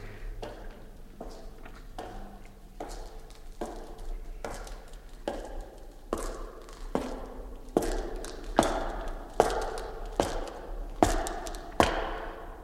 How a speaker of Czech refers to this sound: Je tu někdo? Krucifix, to jsou přece kroky.